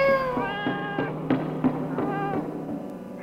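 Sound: cat meowing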